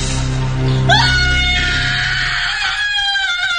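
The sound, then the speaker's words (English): A loud, piercing horror-movie scream from the final moments of the film Troll 2 shoots upward in pitch and holds shrilly for nearly two seconds before trailing off, with a low rumble underneath. “I released the same piercing shriek.”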